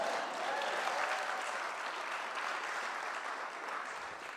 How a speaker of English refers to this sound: Yeah, that's okay to clap to.